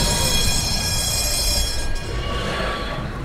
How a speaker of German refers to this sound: Weil Straßenbahnen fahren ja auch relativ schnell.